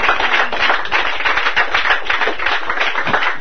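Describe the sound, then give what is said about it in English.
An audience breaks into steady applause for a woman after her testimony, many hands clapping in a dense, continuous patter that stays loud and even throughout, with no voices standing out. “Give her an applause there.”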